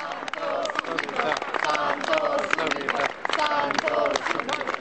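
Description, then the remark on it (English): A crowd of thousands applauds steadily in a vast outdoor square on a windy day as 12 pallbearers carry the coffin of Pope John Paul II out of the basilica, sustained clapping blended with many raised voices and cheers, loud and continuous throughout. “applause rang out across the vast square as 12 pallbearers carried the coffin out of the basilica”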